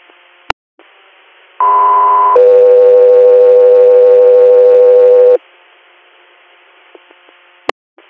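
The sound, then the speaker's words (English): Two sustained electronic radio dispatch alert tones for Country Air play back to back over a hiss of radio static, a shorter higher-pitched tone followed by a longer lower one, framed by brief squelch clicks. “Country Air, standby for tones.”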